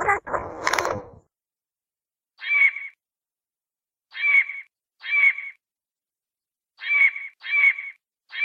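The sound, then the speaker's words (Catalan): A Eurasian jay, a bird about 34 cm long with pinkish plumage, blue-and-black barred wings and a black tail, gives six harsh, rasping screeches, spaced irregularly and heard clearly on their own after a brief burst of a voice at the start. “El gaig és un ocell d'uns 34 centímetres de llarg, de plomatge rosat i marinós, amb les ales ratllades blaves i negres i la cua negra.”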